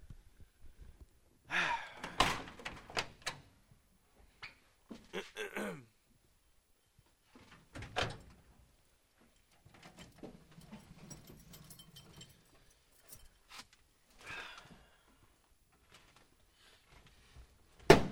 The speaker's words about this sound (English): Need a little grease on that door. Yeah, that's just like butter.